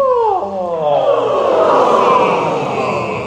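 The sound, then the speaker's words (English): A group of people do a vocalised yawn together as a singing warm-up exercise, overlapping voices sliding down in pitch at first, then merging into a sustained, breathy, moaning drone that holds steadily loud for about three seconds. “And can we just have a vocalised yawn?”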